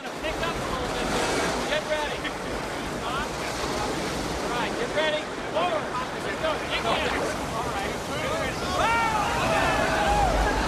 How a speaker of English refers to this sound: Dropping over the ridge, the raft speeds along in the foamy water.